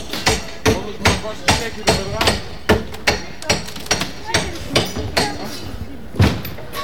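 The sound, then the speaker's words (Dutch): Hammering as squatters break into a building across the street: a steady series of about sixteen sharp, loud blows, roughly two or three per second, each a crisp bang with a short ringing tail, with a slightly heavier thud near the end. “Maar ja, aan de overkant wordt dus ook gekraakt, dus ik loop even naar de andere kant.”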